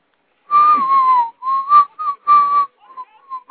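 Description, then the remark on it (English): A person whistles a short, wavering tune in several clear, loud phrases, with brief gaps between notes and softer trailing notes at the end. “You know … will when he starts whistling.”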